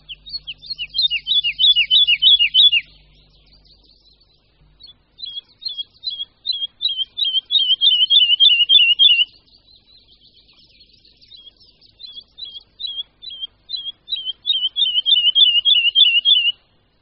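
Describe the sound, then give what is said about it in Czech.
A woodlark sings alone in several loud bursts of rapid, high, fluty notes, some cascading downward and others trilled in quick repeated runs, separated by short pauses. “Zpěv lesního skřivana vyniká neustálým obměňováním melodie.”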